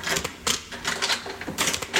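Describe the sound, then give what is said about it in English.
Bright metallic clicks and jingling come in bursts over a couple of seconds as keys rattle and turn in an apartment door lock, with no one speaking. “Lisa hands him the keys.”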